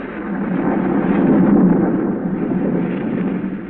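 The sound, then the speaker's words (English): A raging storm roars steadily over the countryside, a dense wash of wind and rain noise with deep rumbling thunder swelling midway and then easing slightly. No one speaks. “A storm rages wildly over the countryside.”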